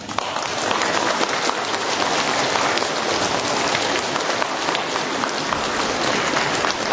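A crowd at a gathering in the parish of St. Bartholomew in Czernikowo, Włocławek diocese, applauds warmly, a dense, steady wash of many hands clapping at even loudness for the full seven seconds, with no voices over it.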